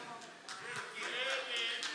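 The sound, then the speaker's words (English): A crowd does a three-beat "1, 2, 3" clap together in a loose rhythm of several sharp strikes that ring out with reverberation, with a murmur of voices underneath. “Thank you for that 1, 2, 3 clap.”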